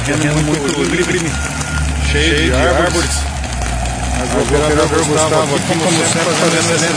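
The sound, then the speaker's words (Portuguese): A heavy machine arriving to fight a fire at Sítio dos Eucaliptos, on steep, tree-covered ground a truck cannot reach; its diesel engine rumbles in a deep steady drone that swells and eases, while a man talks loudly over the noise. “Chegada da máquina. Tá acelerando tudo em volta aqui, porque infelizmente o caminhão não consegue chegar.”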